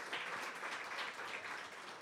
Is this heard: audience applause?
yes